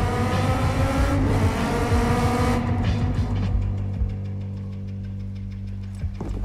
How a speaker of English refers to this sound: A squad of four judges roar towards Peach Trees on their bikes.